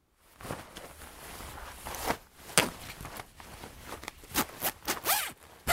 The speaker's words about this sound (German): Habt ihr gehört, wie ich die Regenjacke angezogen habe? Ohne die kann man im Herbst oft nicht rausgehen.